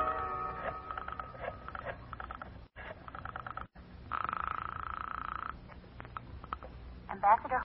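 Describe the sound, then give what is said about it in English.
A telephone being dialed to call a lawyer, with bursts of rapid rhythmic clicking separated by short pauses and a steady buzzing stretch in the middle, clear, with no talking. “I'll call him for you. I'll get him on the phone right now.”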